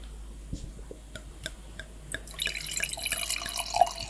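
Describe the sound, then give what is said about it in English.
A few soft clicks and taps, then Starborough Marlborough Sauvignon Blanc from a screw-cap bottle pours into a glass: a steady, bubbly trickle with bright, glassy glints that grows a little louder toward the end. “Should we pour some wine?”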